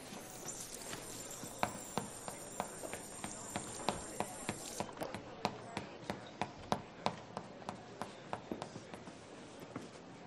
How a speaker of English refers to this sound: Gonna stomp your little last season Prada shoes at me, honey.